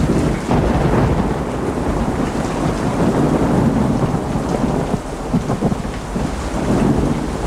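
Steady, heavy rain pours down outdoors in front of a house, a dense continuous hiss with low rumbling underneath like thunder. No voices, just the constant wash of falling water.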